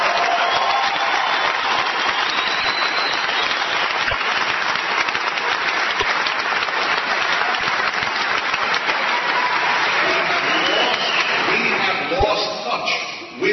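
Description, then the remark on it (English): An audience applauds steadily and loudly for over ten seconds, a dense wash of clapping with faint voices and cheers mixed in, tapering slightly at the very end. “Clap more, you idiots!”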